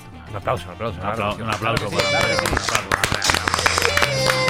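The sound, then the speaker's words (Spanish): Applause from many hands builds after a couple of seconds and keeps going at a steady, fairly loud level, mixed with crowd voices and cheering throughout. “Un aplauso.”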